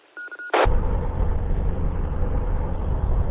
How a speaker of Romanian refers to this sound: zi-mă în primul rând dacă m-am auzit ok, că sunt în mașină și e puțin zgomot, să fie ok